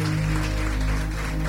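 A crowd applauds with dense, steady clapping that holds at an even loudness for the whole moment, over a low electrical hum. No one speaks.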